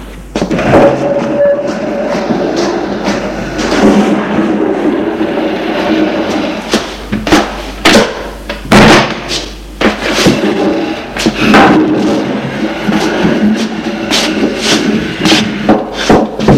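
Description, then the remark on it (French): A heavy wooden dresser scrapes and grinds across an uneven floor as people push it toward an elevator, with rough rubbing noises broken by sharp knocks and thuds as it jolts along, fairly loud. “Alors, ils vont la pousser jusque vers l'ascenseur. Ce n'est pas facile, car le sol n'est pas régulier.”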